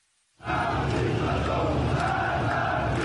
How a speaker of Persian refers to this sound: فریاد مرگ بر دیکتاتور در خیابان جمهوری اسلامی تهران. ظهر دوشنبه شماری از شهروندان تهرانی به خیابان آمدند و علیه رهبر جمهوری اسلامی شعار دادند.